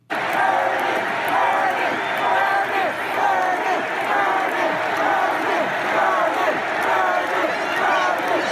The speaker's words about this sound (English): apparently, there was a shouting match between Bernie and Hillary supporters. This was yesterday, actually, at the start of the DNC, a shouting match between the two sides. They're yelling at each other in the convention hall.